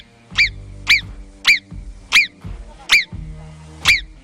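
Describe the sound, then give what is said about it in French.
A caller on the phone imitates a marmot's whistle: six sharp, high-pitched chirping whistles repeated at a steady, quick pace, each brief and loud, over a faint low hum. “il faudra nous refaire, vous savez, le sifflement de la marmotte.”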